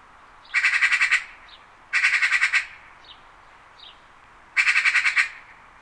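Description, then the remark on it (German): Three harsh, rattling chatter bursts from a Eurasian magpie, each a rapid, loud run of about seven clipped notes, separated by brief pauses with faint calls between. “Elstern sind Rabenvögel und gehören zur Gattung der echten Elstern.”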